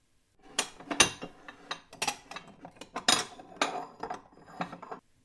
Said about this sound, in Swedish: Året är 1969. Det hörs klirr från farmors kök.